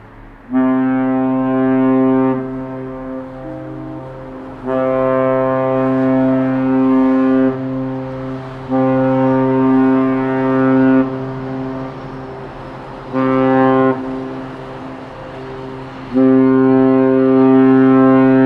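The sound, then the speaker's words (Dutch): A loud, deep horn blares outdoors in a series of long, sustained blasts separated by short pauses, its rich droning tone resembling a ship's foghorn, recorded with a recorder set on a balcony. “Maar met een beetje geluk zit er een toeter tussen zonder verkeer.”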